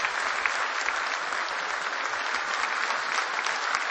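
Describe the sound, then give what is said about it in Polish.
Sustained audience applause, a dense, steady patter of many hands clapping at an even loudness throughout, with no voices rising above it, at a ceremony in Poland where a minister presents a gold medal for merit in national defence. “Niech te brawa trwają, szanowni państwo.”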